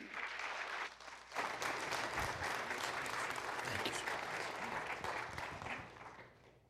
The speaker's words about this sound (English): I'll go back and sit down and come up again. I don't get applauded much. Thank you.